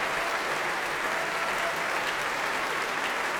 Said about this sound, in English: Vasily Petrenko behind her applauding, and she shows her gratitude to the members of the Oslo Philharmonic Orchestra, all of whom clapping her debut here at the Proms.